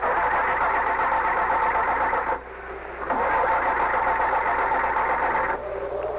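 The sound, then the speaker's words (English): The engine of a car that has crashed into a tree cranks in two long, loud grinding bursts separated by a short pause, straining to start before dropping to a quieter rumble at the end. “He tries to start it.”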